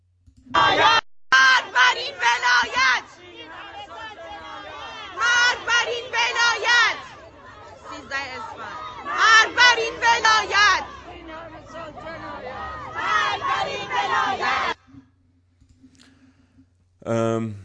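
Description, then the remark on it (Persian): A protesting crowd in Tehran, in front of an education department office on 13 Esfand, shouts at officials loudly in rhythmic, chant-like bursts separated by short pauses, sounding forceful, before dropping to quiet murmuring near the end. “خب این دیگه شدیدترینش بود. جای دیگه فریاد زدن سر رؤسا از منطقه یک، منطقه دو، منطقه فکر کنم هشت، خود منطقه پنج از همه خب شدیدتر بود.”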